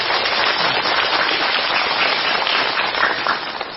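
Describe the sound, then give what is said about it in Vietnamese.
A crowd applauds steadily with dense, crackling hand claps at a constant loud level for several seconds, with no voices: the audience at a Buddhist talk applauding the organizing committee. “Xin quý vị tán thưởng tất cả.”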